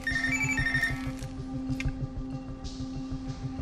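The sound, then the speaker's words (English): A cell phone ringtone plays a short bright melody for about a second, over a steady low drone and a rhythmic pulsing beat that continue after the ringing stops; from a film clip in which Vikander's character and Tommy Lee Jones's character reach Bourne by phone. “At one point, together, Vikander's character and Tommy Lee Jones's character reach Bourne by phone while watching him from 1,000 miles away.”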